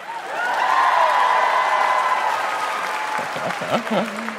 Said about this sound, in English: Round of applause if you have anxiety.